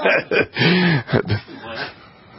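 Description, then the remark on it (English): Someone clears their throat, a few rough, raspy grunts mixed with a brief hummed vocal tone, then trailing off into quiet breathy noise. “You need to clear your throat.”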